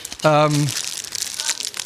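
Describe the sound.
Crinkling of a popcorn bag, a steady rustly crackle for over a second, coming right after a short voiced sound with a falling pitch.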